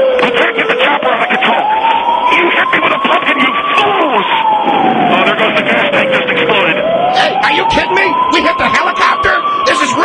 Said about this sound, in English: Siren. I hope they're coming to arrest you